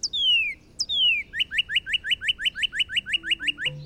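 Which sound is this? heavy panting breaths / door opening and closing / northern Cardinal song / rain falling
northern Cardinal song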